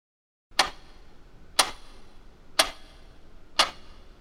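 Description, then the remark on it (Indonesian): A wall clock ticks steadily at 1 a.m., four crisp clicks spaced about a second apart against a quiet, faintly hissy background, fairly soft. “Jam dinding menunjukkan pukul 1 pagi.”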